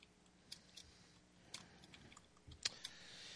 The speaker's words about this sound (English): Sorry, everyone. I'm typing while talking.